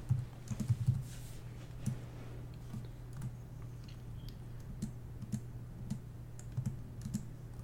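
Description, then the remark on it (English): Typing on a computer keyboard: a steady run of light, irregular clicks and taps, with a few heavier keystrokes near the start, over a low constant hum. No one speaks. “Hey, I have a quick question for you while I'm typing this up, while I'm writing this out.”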